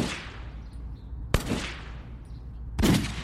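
Three loud gunshots ring out at a steady interval of about one and a half seconds, each a sharp crack followed by a long, fading rumble, with no voices.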